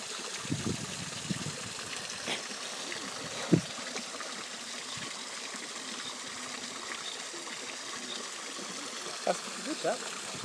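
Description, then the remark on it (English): Water flows steadily from small waterfalls at duck ponds beside a wooden bridge, a constant broad rushing hiss throughout, with a few brief soft knocks and faint, indistinct voices now and then. “Come down this way, there's more waterfall type things down there.”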